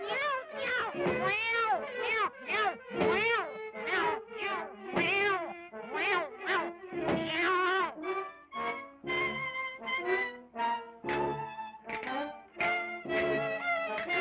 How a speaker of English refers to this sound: At one point, a musician pulls on several cats' tails to create the melody from their meows, and another removes his teeth to create makeshift castanets.